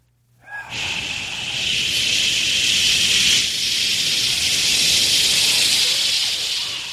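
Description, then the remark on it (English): Several voices hiss steadily together into a microphone as it is turned up, a bright, sustained sibilant noise that starts abruptly and holds at a loud, even level for several seconds with slight swells. “Everybody, when he goes turn up, everyone make like hissing sound into the mic.”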